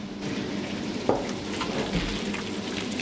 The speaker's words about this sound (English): So we're basically mixing the water and grain together, getting it soaking. Yeah. Unfortunately, we are manual, not mechanical. True hands-on.